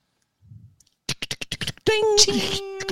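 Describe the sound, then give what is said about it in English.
A voice imitates typewriter typing with a quick run of about eight sharp, clacking mouth clicks, followed by a sustained, ringing vocal tone like a carriage bell. “Can't even do a typewriter noise.”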